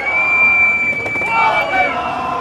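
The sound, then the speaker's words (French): A crowd of about 500 people, General Electric employees and local residents, boos and jeers minister Bruno Le Maire on his arrival at the General Electric site in Belfort, France, in a steady, dense roar of voices, with a long shrill whistle sustained across most of the moment and brief sharper shouts poking through. “vous suivez le ministre qui a été accueilli sous les huées à Belfort.”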